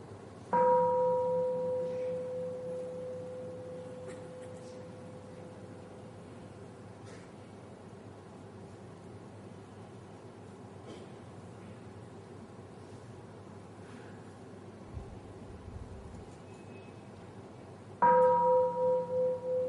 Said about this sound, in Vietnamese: Đó là chúng ta thực tập tiếng chuông chánh niệm.